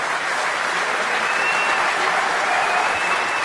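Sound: audience applause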